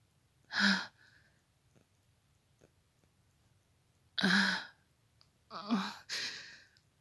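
Slow, heavy breaths with no talking: a long breath, a pause, another, then two quick ones in a row. Each is a soft, airy rush with faint clicks between.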